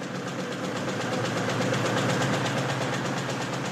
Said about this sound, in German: Und weiter donnern die Rotationsmaschinen. Nach der Morgenausgabe kommt die Mittags-, die Abend-, die Nachtausgabe dran.